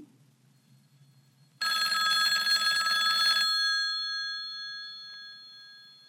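A single loud burst of an old-fashioned telephone bell rings for about two seconds, then its metallic tone slowly fades out, following a quiet moment of faint low hum.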